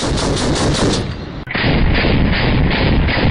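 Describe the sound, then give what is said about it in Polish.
Loud, rapid gunfire, shots fired in quick succession so they blur into a dense, rattling roar; the firing cuts off briefly midway, then resumes just as heavily. “Broń różnorakiego kalibru jest mniej więcej tak samo głośna.”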